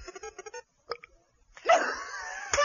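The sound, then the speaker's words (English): A few short voiced grunts and a brief pop, followed by a long, loud, rasping belch that swells up and rumbles on for about a second. “can you outdo that massive hunk of belch?”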